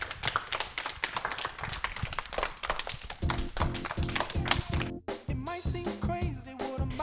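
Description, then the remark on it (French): A group of children from the leisure centre in Chauvigny applaud themselves in a fast, dense, uneven burst for about three seconds, then a bright musical jingle starts up and carries on over the last of the applause. “Oui, vous pouvez vous applaudir.”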